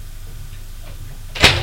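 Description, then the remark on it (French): The door of a small sitting room opens near the end as someone enters, with a single sharp latch click and a brief creaking rush, fairly loud, after a stretch of quiet low room hum. “Il entre.”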